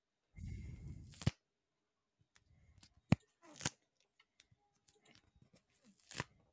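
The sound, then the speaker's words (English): Fiddling with blue tack adhesive putty: a muffled squishing rumble at first, then scattered soft clicks and a few sharp tacky snaps as it's pulled and pressed, with no talking. “Play with the blue tack. Glue tack ASMR.”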